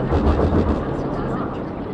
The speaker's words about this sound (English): It's a big plane leaving SFO. It's amazing when you're out here, you pretty much don't hear anything besides the planes and the faint hum of the cars.